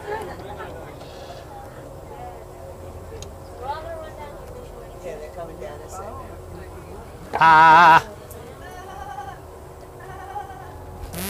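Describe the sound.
A single loud, wavering sheep bleat rings out near the end, brief, rising sharply above a steady background of murmuring voices and faint outdoor noise.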